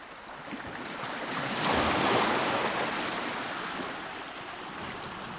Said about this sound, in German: Da bin ich also am Meer gesessen, habe den Wellen zugeschaut und mich immer wieder über die Gedanken gewundert, die unsere kleine Tochter damals in diesem gemalten und geschriebenen Brief festgehalten hat.